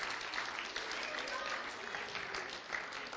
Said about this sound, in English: Give them a hand clap for those that come on. Go on, take up a hand clap.